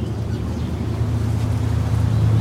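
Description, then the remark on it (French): A ship's engine drones steadily at a low pitch as the ship cuts through the sea, under a wash of water and wind noise, a constant, fairly loud rumble with no voices. “Bon, c'est pas exactement le même nom de bateau. Lui, c'est Fort Royal.”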